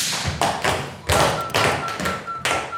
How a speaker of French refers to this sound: Vous allez nous montrer comment on fait des claquettes. Allez-y. Allez sur la scène à deux. Allez-y. Faire du bruit, en fait.